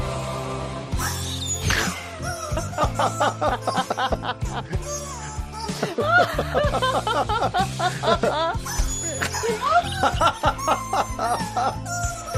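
A chicken squawks its way through a song, its strained, wavering notes rising and falling off-key for several seconds over a busy, steady musical backing.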